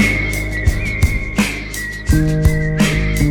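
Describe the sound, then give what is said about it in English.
A high, steady whistled melody carries over a rhythmic backing of thumping drum hits and a low bass line, fairly loud, with no voices. “Whistles across the meadow”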